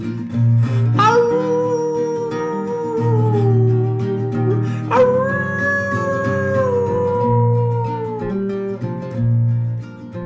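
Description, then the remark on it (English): Two long, wavering howls, each starting sharply and then sliding slowly downward, ring out loud over a steady low musical backing. “My bones may be gone, but you know I live on when there's howling at the moon.”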